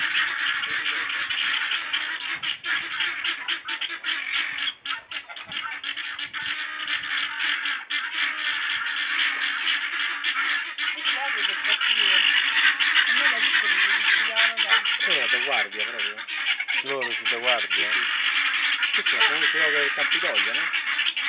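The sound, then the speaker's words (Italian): Guinea fowl calling loudly, a dense harsh chatter throughout, with distinct repeated rising cries standing out more clearly in the second half. “Questo sono i faraoni.”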